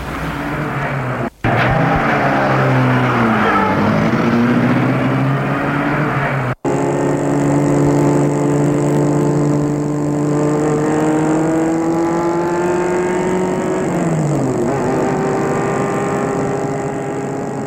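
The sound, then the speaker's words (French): A car engine is started, turns over and catches, then revs and pulls away, its steady hum rising and falling in pitch as it accelerates, fairly loud, with no voices. “Et elle la met en route.”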